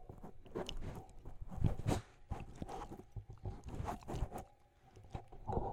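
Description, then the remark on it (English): A female dog chews on a microphone, producing loud, irregular crunching bites and muffled thumps with rustling scrapes in between, continuing for several seconds with no talking. “The dog has something to say.”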